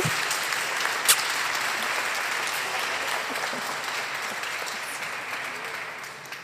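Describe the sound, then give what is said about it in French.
An audience applauds steadily to greet newly baptized members, a dense wash of many clapping hands at an even level throughout, with one sharper clap standing out early on and no voices breaking through. “Voilà, je vous invite à les saluer par vos applaudissements et ensuite votre chant.”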